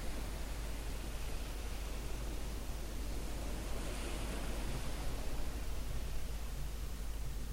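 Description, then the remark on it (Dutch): A steady, even wash of sea surf rolling onto a beach with a soft hiss, holding a constant level without distinct individual wave crashes. There are no voices. “Iedere uitademing rollen de golven over het strand.”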